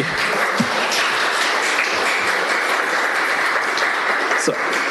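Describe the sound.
Sustained applause from an audience at a Santa Rosa city council meeting, in support of translation by default: a dense and even wash of many hands clapping that holds steady throughout, with a few faint voices mixed in underneath.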